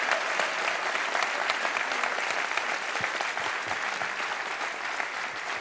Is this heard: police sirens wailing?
no